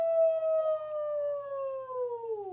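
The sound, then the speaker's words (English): A voice imitates a Sasquatch yell: one long, loud, sustained howl held at a steady mid pitch for over two seconds, sliding slightly downward at the end, with no talking. “let's give him a Sasquatch yell.”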